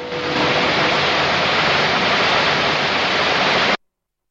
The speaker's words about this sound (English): The ambulance trundles away across the grass as the last flames are doused with water.